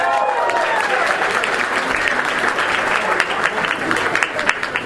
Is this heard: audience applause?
yes